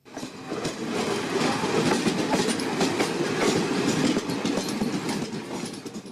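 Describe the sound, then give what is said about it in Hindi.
A long-distance passenger train in India rolls steadily along the rails, its loud, continuous rumble punctuated by a quick, rhythmic clickety-clack of wheels over track joints, with no voices. “सलमान रावी ने एक ऐसे ही लंबी सफ़र की ट्रेन में यात्रा की ताकि सीएजी की रिपोर्ट में उठाए गए सवालों की जांच की जा सके।”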